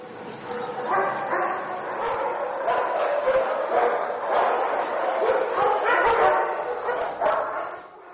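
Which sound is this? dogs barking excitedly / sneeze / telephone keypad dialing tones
dogs barking excitedly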